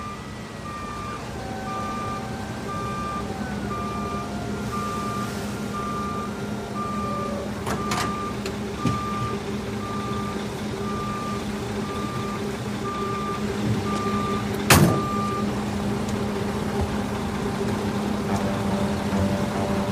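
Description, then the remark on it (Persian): A garbage truck reverses, its backup alarm beeping in a steady, evenly spaced rhythm over a constant low diesel rumble, with a couple of sharp clanks partway through. “به عنوان مدرک آشغالا رو برداریم یا کل کامیونو؟”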